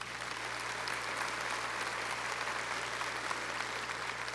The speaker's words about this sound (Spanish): Amén. Le damos un aplauso a Él.